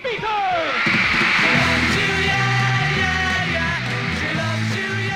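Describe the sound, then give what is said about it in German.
A packed concert audience, mostly girls, screams continuously, with high-pitched shrieks and yells piling up into a loud wall of sound while band music plays underneath. “da kreischen die Zuschauer, vor allem Mädchen.”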